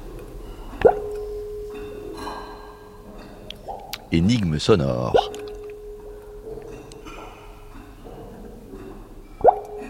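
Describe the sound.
Sharp, ringing plops of falling water drops in an underground river cave in the Dolomites, one near the start and one near the end, over a steady low hum, with a brief warbling burst midway and a short spoken phrase.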